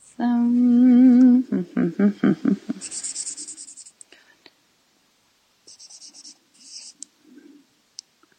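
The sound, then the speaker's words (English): A pencil scratches across paper in several short bursts separated by pauses while someone works out math, following a brief hummed vocal tone and some breathy sounds at the start. “Can you actually hear the sound of me like scratching on the paper?”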